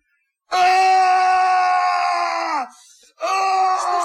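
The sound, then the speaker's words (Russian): A man, Emil's father, screams loudly, one long strained cry that sags at the end, then after a short gasp a second scream begins. No speech. “Это кричал папа Эмиля.”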